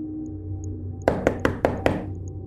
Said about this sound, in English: The bashing at the door continued.